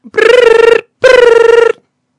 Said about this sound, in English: Your phone's ringing.